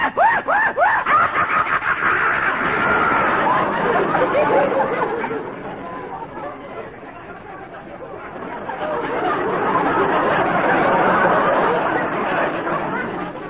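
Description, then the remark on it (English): A voice imitates a series of animal calls: a shrill, wavering horse whinny, then rapid chattering monkey cries and a cackling, screechy hyena laugh, loud throughout. “The frightened whinny of our horses. The wild chattering of the monkeys. The maniacal screech of the hyena.”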